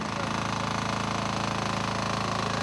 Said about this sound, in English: Gas-powered pumps run throughout the day to move water into the marshland outside the camps